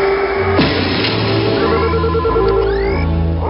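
telephone bell ringing

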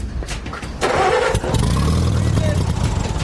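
tractor engine being started

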